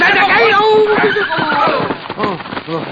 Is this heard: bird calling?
no